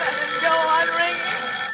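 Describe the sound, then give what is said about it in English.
A telephone bell rings steadily and fairly loudly, a continuous metallic jangle that fills the short moment with no voices over it. “Even if it goes on ringing all night, I won't answer it.”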